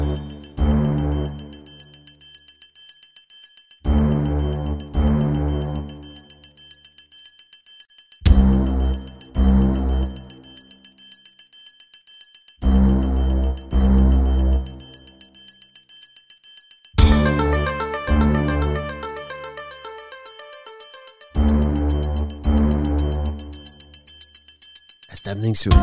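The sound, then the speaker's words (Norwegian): Video game soundtrack music from System Shock: synthesized phrases with a heavy bass pulse repeat about every four seconds over a steady high tone, then a busier, shimmering, arpeggiated passage appears before the main phrase returns. “Nå har vi litt musikk fra System Shock her, vi koser oss.”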